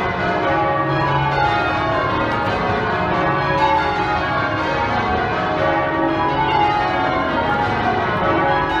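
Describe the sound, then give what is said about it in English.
Church bells ring continuously from church towers in Norfolk late on Christmas Eve. Overlapping peals blend into a dense, resonant wash of clanging tones that stays steady and fairly loud throughout, with no voices. “Late on Christmas Eve, bells ring out from church towers across Norfolk.”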